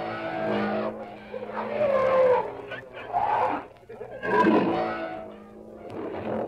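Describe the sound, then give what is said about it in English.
A caged Bengal tiger snarls and lions roar loudly at a circus, in a continuous stretch of rough, rising and falling growls with short pauses between bursts. “Listen to that big Bengal snarling at us. Now the lions look us over and roar a greeting.”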